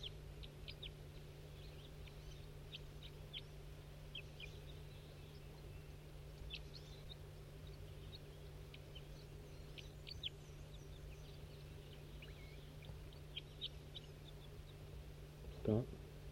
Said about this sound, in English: That's that wild bird that was tooping. Stop. Start recording that wild bird that was tooping.